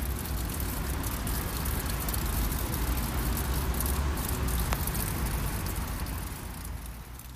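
A steady, dense roar of road traffic around a windbreak on a busy round square in St. Pölten, with a patter of dripping water on top and a brief sharp click near the end; no one speaks.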